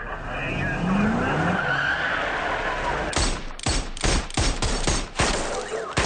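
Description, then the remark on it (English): A film's Watertown shootout scene: engines roar and tires squeal in a car chase as the Tsarnaev brothers fight police, then rapid bursts of loud gunfire crack out in quick, uneven volleys over the last few seconds. “And the scenes from Watertown play out like something from the video game Grand Theft Auto, cars flying through the air as the Tsarnaev brothers throw pipe bombs and pressure cookers at the police.”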